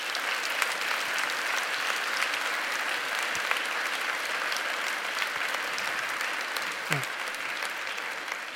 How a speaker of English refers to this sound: So that was really cute, but let's try one more time. Let's just try one more time. All right, golf claps are wonderful, and they're affirming on the golf course.